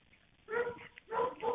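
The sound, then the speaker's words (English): Dogs barking in the background of a 911 call, two drawn-out, yelping bursts heard through a narrow, tinny phone line, moderately loud with a brief quiet gap between them. “In some parts, you can clearly hear the dogs in the background, which means that he's close to the murder scene.”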